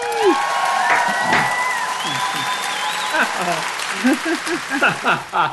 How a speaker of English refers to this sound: And the crowd goes wild. Yeah, we have a very, very excitable studio audience.